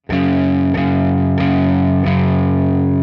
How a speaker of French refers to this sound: Et en fait, ce power chord, on va le jouer 4 fois.